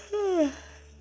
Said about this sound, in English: But in his bed so snug and warm, Harold's eyes begin to close. Harold yawns.